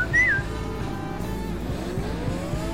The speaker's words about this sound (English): maximum power to the engines.